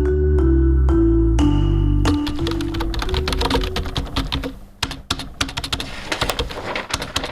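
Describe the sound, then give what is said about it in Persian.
Rapid, close-up clatter of fingers typing on a computer keyboard, with irregular bursts of key clicks. It follows a couple of seconds of low, stepped tones at the start. “اوف، کاری تایپینگم از یک هفته مانده، بیخی دلم تنگ سا.”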